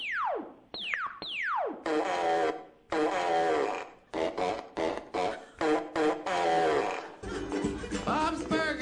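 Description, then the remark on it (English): Three quick descending laser-like zaps, then a long run of loud, buzzy, sputtering fart noises made with the mouth, coming in choppy bursts with no talking, from the animated TV show Bob's Burgers. “Does robot voice, laser sound, and fart noise.”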